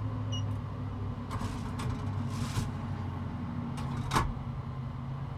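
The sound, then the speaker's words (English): A steady low mechanical hum from an incinerating toilet running its incineration process after the button is pressed, broken by a few whirring, scraping movements and a final sharp clunk as the incineration chamber door shuts, with no one speaking. “And then after you're done, you stand up and you simply close the toilet and you press the incineration button, and now the noise will come.”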